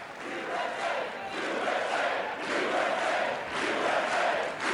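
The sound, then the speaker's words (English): Members of the U.S. Congress chant "USA, USA" in unison, the voices swelling and falling in a steady repeating rhythm roughly once a second, loud and sustained with cheering mixed in throughout. “Within moments, it seemed like all of Congress was chanting, USA, USA.”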